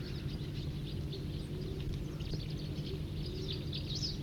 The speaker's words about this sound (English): And other crossbills nearby giving song phrases and trills. That was a song phrase.